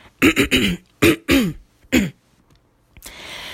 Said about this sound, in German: Er räusperte sich.